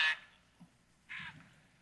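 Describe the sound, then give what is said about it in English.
A squeezed Aflac toy duck gives two short, nasal quacks, one right at the start and another about a second later, fairly loud against a quiet background. “And I'll be giving away one of these Aflac ducks here that we're actually going to give a few away right here.”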